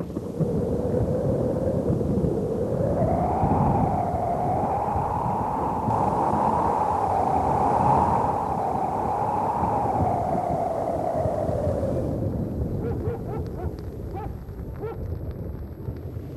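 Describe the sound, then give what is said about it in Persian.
Steady roaring wind with a whistling tone blowing over a dirt road to the village of Dastjerd in fog; it swells and rises, then eases after a while into softer rustling with scattered patters like rain. No voices. “باد میوزه، جاده خاکی ده تا گلو تو مهه.”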